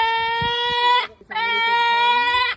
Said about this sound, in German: Ich schneide euch so ein Kreischen von einem Seelöwen mal rein, damit ihr mal so ein Gefühl kriegt, wie sich das so anhört.